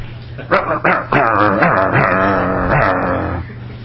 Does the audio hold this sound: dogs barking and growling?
yes